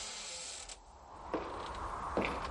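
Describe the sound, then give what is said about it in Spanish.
A door creaks open slowly, its drawn-out groan broken by a couple of sharper mechanical accents. It's fairly quiet, with no voices. “Una puerta que chirría.”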